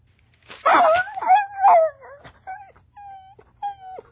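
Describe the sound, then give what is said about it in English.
A dog yelps and whines after its chain is pulled to correct it during sit training, in a rising, wavering cry, followed by several shorter high-pitched whimpers that fade off, loud with no talking. “I don't want to strangle my dog. Pull the bloody chain, boy!”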